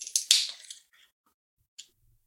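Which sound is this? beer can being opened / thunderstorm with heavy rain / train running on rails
beer can being opened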